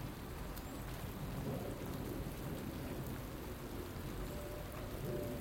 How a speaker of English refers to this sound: Lovely as in the sense that it is obviously very overcast over. It's raining, but it's mild and there's no wind, and so it's that beautiful, calming, soothing, rhythmic rain.